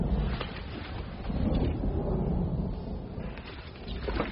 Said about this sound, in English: There's a storm coming. I don't see any.